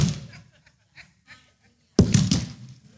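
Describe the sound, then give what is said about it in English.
A church audience, prompted by the preacher on a count of three, voices a thud together: one loud, low, muffled group burst after a near-silent pause, following the fading tail of an earlier attempt, with a few scattered murmurs between. “Anybody here make a sound of a thud?”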